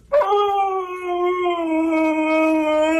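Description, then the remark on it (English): A husky named Maverick howls, or "sings", in one long, sustained, wavering note that starts abruptly and holds steady for about three seconds, loud and tonal with rich harmonics, no talking. “A little bit of a Maverick, the singing husky, singing over there for us.”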